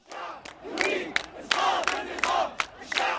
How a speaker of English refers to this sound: The unprecedented nature of Egypt's ongoing protests was clear from the first few hours. Chants like this one in Cairo that pronounced the people's determination to topple the government clearly sent a chill up officials' spines.